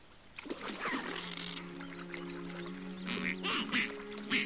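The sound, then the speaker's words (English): A turtle duck quacks and honks in short, nasal calls, with splashy water sounds mixed in and a few louder bursts toward the end. “Mom, want to see how Azula feeds turtle ducks?”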